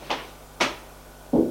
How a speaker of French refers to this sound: L'autre policier va frapper à la porte.